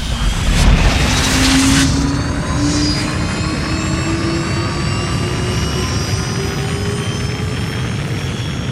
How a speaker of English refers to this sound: The rocket zooms into the sky.